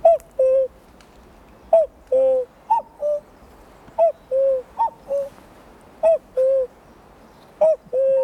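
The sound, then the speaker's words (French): A voice imitates a cuckoo in early April, repeating the falling two-note call about seven times at uneven intervals. It sounds clear, with short silences between calls and no talking. “Mais donc le coucou, alors, pourquoi je fais le coucou?”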